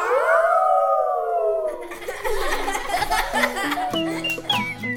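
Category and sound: animal, wolf howling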